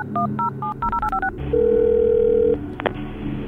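A quick run of about eight keypad beeps as a phone number is dialed, then a single steady ringing tone holds for about a second before cutting off, with no talking.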